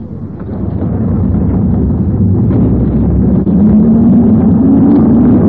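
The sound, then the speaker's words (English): The engine of a number 79 passenger bus rumbles steadily from inside the vehicle just after a passenger boards, a loud, continuous low drone that rises in pitch toward the end as the motor revs up. “She has just got on a bus.”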